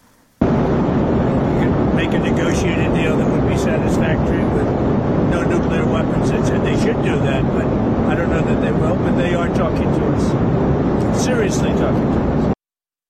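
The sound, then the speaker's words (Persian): Loud, steady airplane cabin roar fills the whole recording without letup, with the muffled, band-limited phone voice of Donald Trump, speaking from aboard a plane, talking faintly beneath the constant engine drone. “به خاطر کیفیت صدایی که از آقای ترامپ پخش شد، به خاطر این هست که ایشون در هواپیما بودن و کیفیت صدا بود.”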